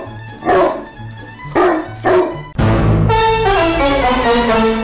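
A dog barks three times in quick succession, loud and harmonic, then lets out a longer, sustained drawn-out vocal sound with a steady low hum underneath. No one speaks.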